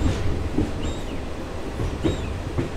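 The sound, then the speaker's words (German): A train creeps along the tracks slower than walking pace, slowing for a small black bear walking on the tracks ahead of the locomotive, with a steady low rumble, soft periodic clunks from the wheels and faint high metallic squeals drifting in and out. “Plötzlich fährt der Zug noch langsamer, langsamer als Schritttempo.”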